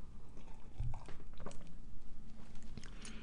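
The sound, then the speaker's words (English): Wet mouth sounds of someone sipping tea, a few soft slurps and swallows over a few seconds, with no talking. “This is a long name and I need a sip of tea.”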